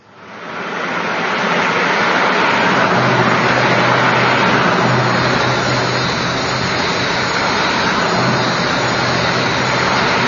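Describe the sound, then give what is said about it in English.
A car drives along with a steady, loud road-and-engine roar that swells in over the first second and holds constant, with a low hum beneath. No one speaks. “Someone drives down here.”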